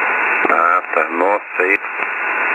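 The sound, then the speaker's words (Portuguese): An amateur radio shortwave single-sideband transmission on the 40-metre band, around 7 MHz, with steady, breathy hiss throughout, a muffled, narrow, nasal-sounding voice talking through it, plus a couple of sharp clicks. “E o chiado soprado ao fundo característico de ondas curtas em SSB.”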